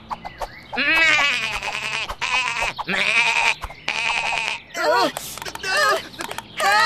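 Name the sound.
goat bleating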